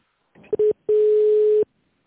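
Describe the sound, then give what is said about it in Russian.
A telephone line tone during a call to the pharmaceutical company Puls Novosibirsk: a short clipped beep, a brief pause, then a longer steady mid-pitched tone lasting under a second, clear and alone with no voices. “Мы позвонили в фармацевтическую компанию «Пульс Новосибирск».”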